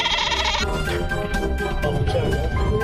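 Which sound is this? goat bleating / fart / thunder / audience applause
goat bleating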